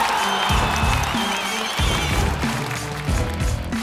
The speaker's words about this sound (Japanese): ゆかりに大きな拍手。